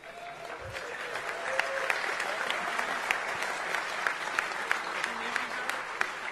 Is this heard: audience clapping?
yes